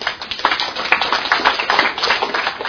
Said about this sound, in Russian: Ребята, а теперь будьте внимательны, первые аплодисменты.